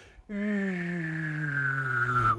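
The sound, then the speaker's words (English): A person hums a low, steady note while whistling a clear high tone at the same time, the two pitches held together for about two seconds and drifting slightly lower before stopping. “Or if you can hum and whistle together, listen to this.”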